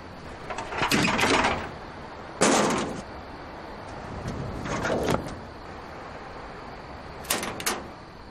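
gate being opened

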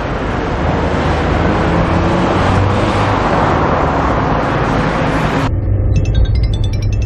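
car driving fast

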